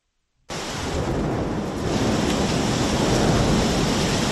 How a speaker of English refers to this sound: Torrential rain hit central Athens Thursday as a wave of bad weather made its way across the country. The Parthenon atop the ancient Acropolis was barely visible in the storm.